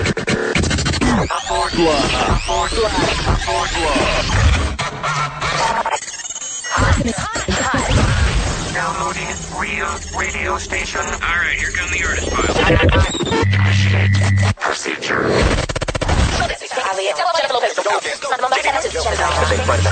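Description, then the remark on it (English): Loud, continuous crackling radio static from a Washington hit music station's broadcast fills the whole stretch, harsh and unbroken, with garbled fragments of voices and warbling tones bleeding through the hiss. “Continuous annoying static.”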